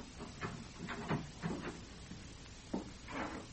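A door is eased shut with a few soft wooden bumps and a faint latch click, quiet and unhurried, with no voices.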